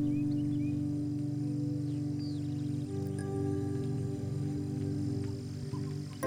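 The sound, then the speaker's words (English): Faint bird chirps and short whistled calls of birds in a forest flutter in the background, mostly masked by a steady, loud low humming drone that fills the whole stretch. “You can hear the twittering of birds and the rustling of small animals.”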